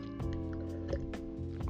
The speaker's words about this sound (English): I got my water next to me, you know, so you will hear me taking water breaks, which I'm about to do right now.